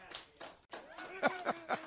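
Sparse, quiet clapping from two people, a steady patter of about eight claps at a brisk, even pace, with a faint voice murmuring underneath toward the end.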